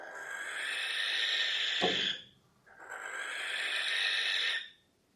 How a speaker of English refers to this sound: Barn owl's call has more of an eerie, hair-raising quality to it and would certainly trigger an alarmed response to anyone walking alone in the dark.